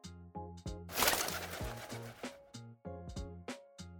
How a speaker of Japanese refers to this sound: カラスさん。お疲れ様でした。屋根に皆さんの朝食ご用意できてますよ。